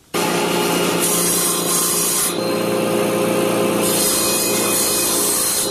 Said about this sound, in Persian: 29 ساله تخته چوبی را با اره برقی میبرد تا برای یک از مشتریانش در هرات میز غذاخوری بسازد.